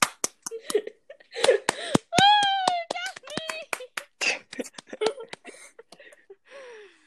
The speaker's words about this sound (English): I don't know what came over me. I was just clapping. Thank you. I don't know what came over me, honestly. I just felt the need to start clapping, so.